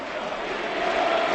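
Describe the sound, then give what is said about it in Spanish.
A large stadium crowd at Celta's Balaídos stadium chants "Mourinho dimisión", calling for the club president Mourinho's resignation, in a dense, steady roar of many voices, sustained and fairly loud throughout the brief moment, with no single speaker standing out. “Ese es el grito de la grada de Balaídos.”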